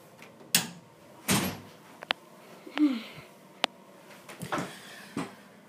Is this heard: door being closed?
yes